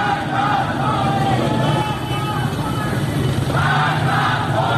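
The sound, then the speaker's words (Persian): A large crowd of protesters chants slogans such as "Death to Khamenei" and "Freedom, freedom" together, many voices shouting in unison at a steady, loud level for the whole stretch, with a dense roar of voices underneath. Protests in cities including Rasht and Zahedan. “در شهرهای رشت، عراق و زاهدان هم معترضان شعارهایی از قبیل مرگ بر خامنه‌ای و آزادی آزادی سر دادند.”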